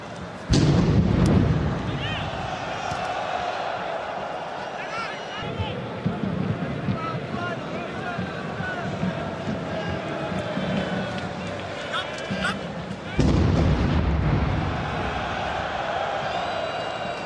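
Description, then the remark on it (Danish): A loud explosion booms out at the start over a constant roar of a crowd of about 80,000 at a televised football match, as Patrice Evra is controlling the ball, followed by a steady crowd din, then a second heavy blast rings out near the end. “hvis man ser kampen transmitteret, så kan man godt høre de her eksplosioner”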